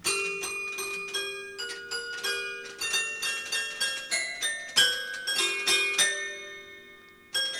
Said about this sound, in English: Who's playing the piano? Who's playing the piano? We have a dog who plays the piano. The 1969-ish Caspinet piano? Yes. It's a 1969-ish Caspinet piano, as you've already mentioned.